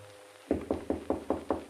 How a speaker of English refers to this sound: And then, at 3 o'clock, a knock on my door.